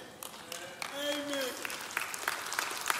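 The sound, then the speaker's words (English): Scattered audience clapping, a spread of quick sharp claps, with a short voiced call rising over it near the start before the applause carries on at a moderate level. “Yeah, clap and incriminate yourself.”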